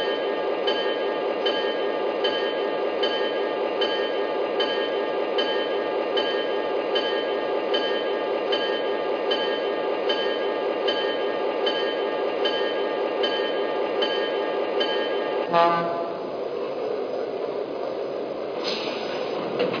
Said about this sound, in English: Now we're arriving from Chicago on track one, train number six, the Fifth Avenue Special.